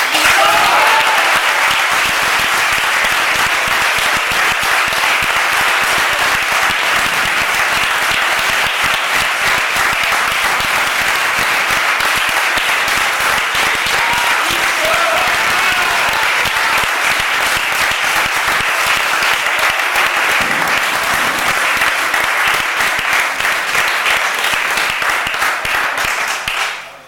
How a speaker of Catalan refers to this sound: Aplaudiments generosos, que no generals, però generosos.